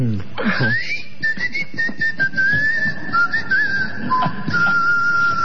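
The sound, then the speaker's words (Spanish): A thin, airy whistle of wind passing through small holes an architect placed in the Colossus of Memnon statue holds a steady high pitch for about five seconds, wavering slightly and dipping briefly, over soft low rustling. “Otros dicen que era el viento que pasaba por algunos agujeritos que el arquitecto había puesto con toda astucia, y el coloso de Memón chiflaba.”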